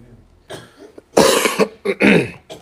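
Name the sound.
coughing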